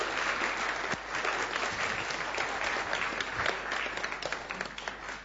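A church audience bursts into sustained applause, many hands clapping in a dense, steady patter for several seconds with a few sharper claps standing out, and no one speaking.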